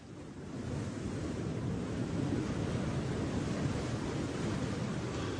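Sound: ocean waves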